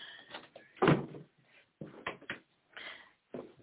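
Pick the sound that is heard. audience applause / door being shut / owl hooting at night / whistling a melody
door being shut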